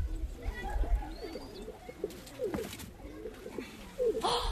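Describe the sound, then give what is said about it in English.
Several pigeons coo in soft, throaty, wavering phrases that overlap and repeat steadily, set against a low background rumble with a brief noisy burst near the end. “Pigeons are thought to be one of the world's earliest domesticated animals, raised for food and fertilizer as early as 10,000 BC.”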